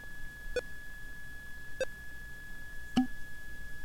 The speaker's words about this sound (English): So the high beep means that that file is almost done. The higher the beep, the closer the file is to being done. So now the book is being sent.